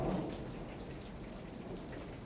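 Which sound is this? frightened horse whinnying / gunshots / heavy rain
heavy rain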